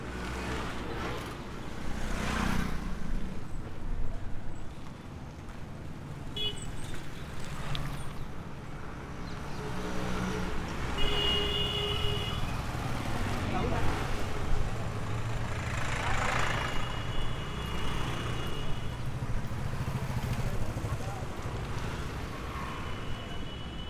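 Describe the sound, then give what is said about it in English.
Steady rumble of busy street traffic on Rata Yatra, with idling engines and passing vehicles, brief horn-like tones cutting through, and indistinct voices mixed into the constant din. “Traffic walking against it on Rata Yatra.”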